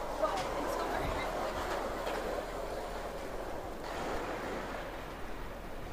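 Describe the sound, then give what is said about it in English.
Many skateboards roll down a street with a steady, gritty rumble of wheels on pavement that swells slightly as riders pass, continuous for several seconds, with faint voices in the background. “All of a sudden, everybody's coming down the street on skateboards.”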